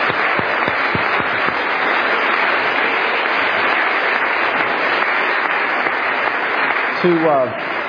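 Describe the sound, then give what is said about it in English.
Steady audience applause at the end of a debate's cross-examination period fills the whole eight seconds with dense, even clapping, and a voice starts to speak over it near the end. “I think I need a round of applause.”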